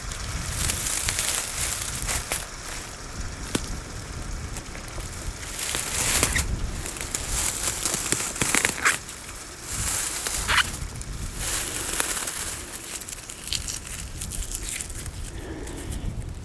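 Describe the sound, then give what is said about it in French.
Dry grass crackles and rustles continuously, a dense, brittle texture with sharper snaps scattered throughout and brief swells in loudness, with no voices. “Les herbes sèches, elles crépitent à vos oreilles.”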